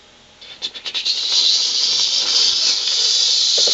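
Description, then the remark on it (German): Water hisses out of a water pipe struck while digging with a shovel: a few sputtering bursts, then a loud, steady, high-pitched spray that keeps going without letting up. No one speaks. “In Wasserleitung.”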